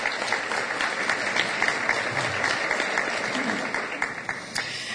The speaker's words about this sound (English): give a wonderful round of applause to the music we heard today, …. Thank you so much.